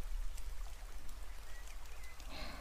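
Light rain from a sun shower, falling while the sun shines, comes down steadily with a soft, continuous hiss and patter, fairly faint, with a few brief thin chirps in the background and no talking.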